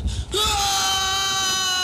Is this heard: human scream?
yes